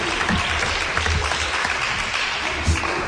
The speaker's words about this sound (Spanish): Un aplauso para Tarzán, ¿no?